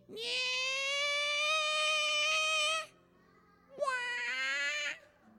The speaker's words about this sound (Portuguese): Sinistro, não é? Quando você está concentrado e ouve um ranger de dobradiça de porta, imagina, super concentrado, e o Oscar vai para. Você pensa que desnecessário. Uma gota de óleo resolveria.